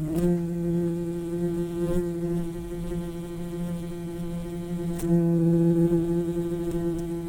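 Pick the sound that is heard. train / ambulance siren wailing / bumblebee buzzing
bumblebee buzzing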